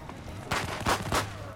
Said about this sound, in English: Claire turns to see the effigy on the bonfire exploding with firecrackers.